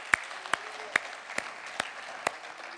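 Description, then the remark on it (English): An audience claps their hands to the Lord, with sharp, evenly spaced claps cutting through a steady wash of scattered applause. The sound is moderately quiet. “Can we clap our hands unto the Lord?”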